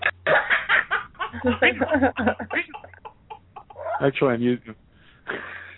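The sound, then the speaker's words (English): Choppy clucking bursts come in quick succession, with a louder drawn-out cluck near the end, mingled with voices and laughter. “I'll go spank my birds.”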